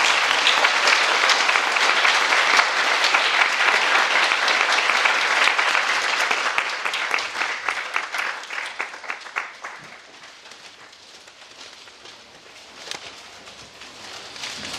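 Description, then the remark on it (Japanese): Sustained audience applause for Suzuki-sensei at the end of a lecture, dense and steady for several seconds, then thinning into scattered individual claps that fade to a quiet tail with a few last claps. “それでは以上で講演会の方を終了したいと思いますけれども、鈴木先生にもう一度拍手の方でお願いします。”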